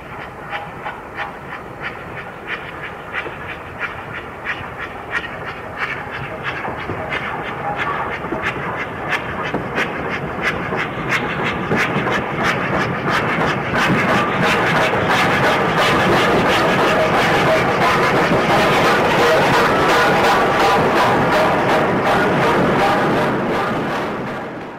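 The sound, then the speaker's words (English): A Black 5 steam locomotive, number 44669, hauling the 9-van Carlisle to Perth parcels train, approaches Stirling Station from the south at 9:12 p.m. on 12 November 1966. Its open cylinder drain cocks hiss and blast steam in a broad roar that swells louder, with rhythmic chuffing and rail clatter building. “At Stirling Station on 12th November 1966, a train approaches from the south. The cylinder drain cocks are open and blasting steam.”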